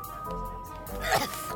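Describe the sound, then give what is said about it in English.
A single short burp erupts near the end, fairly loud, over a steady low background hum. “Burps.”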